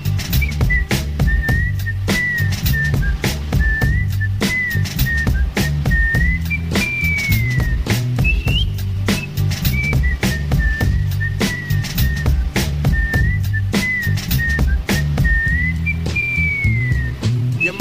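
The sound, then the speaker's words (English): A high, piercing whistle tone plays a short wavering melody over and over, riding on top of a loud, thumping beat with heavy bass throughout. “Blow the whistle.”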